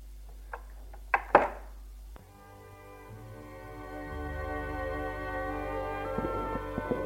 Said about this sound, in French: Le bruit de la serrure. La porte qui s'ouvre.